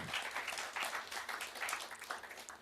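An audience applauds steadily, a dense wash of many overlapping claps that holds at a fairly even loudness throughout with no voices on top.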